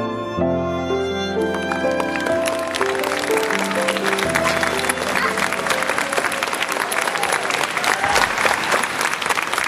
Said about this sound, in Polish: Ukłony aktorów prezentujących dziewczynkę z zapałkami i brawa widzów kończą spektakl.